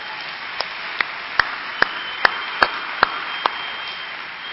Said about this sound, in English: I want to congratulate the Chesapeake, Potomac area, and can we give them a round of applause for a job well done?